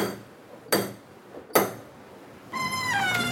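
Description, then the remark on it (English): Two sharp, separate knocks, then a door creaks open with a high, wavering squeal that keeps going to the end. The sounds are clear, and no one speaks. “I definitely remember this door.”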